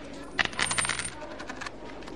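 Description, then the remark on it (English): Several golden coins drop out of a saddle and clink against a hard floor, a quick cluster of bright metallic rattles that settle and fade into scattered lighter taps, with no voices. “All of a sudden, she hears the sound of clinking coins on the floor, like this.”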